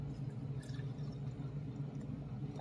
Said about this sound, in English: Hey besties, let's do a pump and pour video using my Peru P16 pump. I haven't figured out how to pour milk out of it without the motor on, so I've just been pouring it with the motor on.